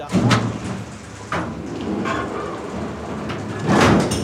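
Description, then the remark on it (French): A garage door rattles and rumbles as it is opened, with a steady mechanical grind and a few louder clanks and scrapes along the way, with no talking. “Vite, la porte du garage, couvre-moi.”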